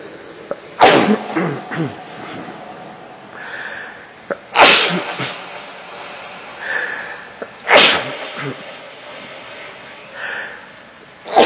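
A person sneezes three times in fairly quick succession, each sneeze a sharp, forceful burst with a short rush of breath after it, followed by a softer sniff near the end.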